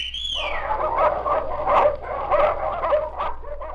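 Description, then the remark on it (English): Small dogs, Wee Lass the Pekingese and Scotty the terrier, bark and yip in quick, high-pitched bursts that overlap in a steady, busy stream, opening with a short falling whine. “You ever hear dogs talk? Well, now, you listen to Wee Lass Pekingese and Scotty Terrier.”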